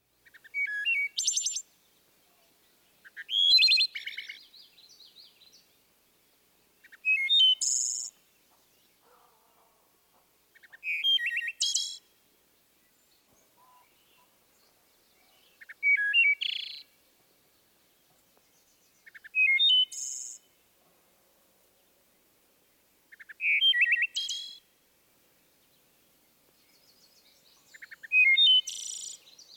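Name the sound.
wood thrush flute-like song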